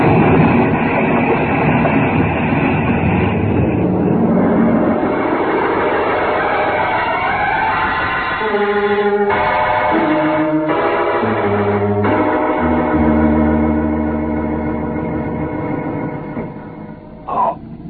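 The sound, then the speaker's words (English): A loud, sustained roaring blast like a spaceship exploding, rumbling deep and steady for several seconds before giving way to ringing, shifting tones, with no voices. “You cleared the ship just as she exploded.”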